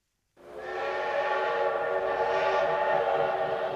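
A train whistle sounds in one long, loud, steady blast with rich harmonic tones, starting abruptly and holding for several seconds over a low rumble of the moving train, on a railway journey between New York and a village in Iowa.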